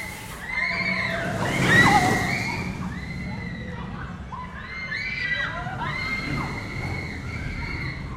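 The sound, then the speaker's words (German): A group of riders screams together in overlapping, high-pitched wails as a roller coaster rushes by with a loud whoosh, the shrieks rising and falling continuously. “Aber dieses Geschrei, das ist wie Musik in meinen Ohren.”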